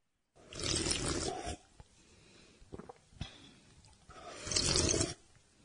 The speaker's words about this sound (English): Do you have to slurp? Of course I do. I love slurping.